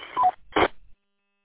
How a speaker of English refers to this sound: It kind of sounds like you have a Roger beep at the end. Not 100% positive.